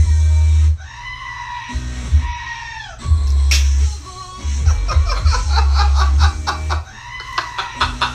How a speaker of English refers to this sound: Do you wanna turn it up so that the audience can hear? The goat's gonna chime in right away here, right?